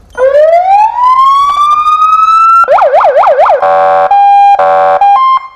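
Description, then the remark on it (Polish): The siren of a new municipal police (City Guard) patrol car in Łódź, Poland blares loud, starting with a rising wail, switching to a rapid warbling yelp, then breaking into short, choppy electronic horn bursts. “To jest kogut. Tak, to jest kogut. A mogę włączyć?”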